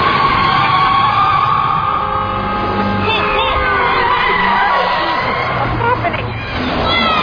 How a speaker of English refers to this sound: Can you back up? I can't, there's traffic!